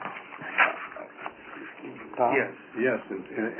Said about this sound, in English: It's a dog.